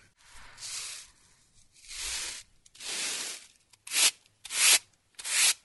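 Six dry, brushing swishes of sweeping freshly ground corn, ground soft like flour for a cake, into a basket: three slow, drawn-out strokes, then three shorter, sharper ones in quicker succession, with no voices.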